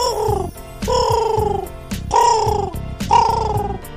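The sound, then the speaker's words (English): Pino, a carrier pigeon, coos on a window ledge in four steady, repeated phrases about a second apart, each a soft, throaty, warbling call with a low rumbling undertone. No one speaks. “It was Pino the pigeon.”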